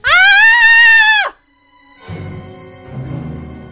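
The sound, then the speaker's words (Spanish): A single loud, high-pitched scream lasts about a second with a slight waver, then cuts off abruptly. After a brief pause, low rumbling, muffled sounds follow. “Chicos, ¿eso ha sido un grito?”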